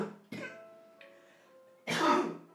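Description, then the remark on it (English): Two coughs with a brief pause between them: a short, lighter one first, then a louder, harsher, more drawn-out cough, with no talking. “I coughed. That was a coughing sound.”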